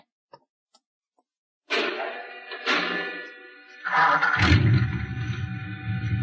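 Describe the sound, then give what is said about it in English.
A few sharp clicks, then a garage door opener whirs into motion with a steady mechanical hum as the door rolls open, the rumble growing heavier and louder toward the end. “You start the mechanism to open the garage door, then jump onto the truck.”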